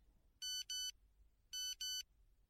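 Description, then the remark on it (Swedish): An old phone in a pocket alerts to a new text message twice: two quick pairs of bright, high electronic beeps with a short gap between the pairs, loud against a low, quiet background hum. “Det vibrerade till i fickan där jag hade den gamla telefonen framför.”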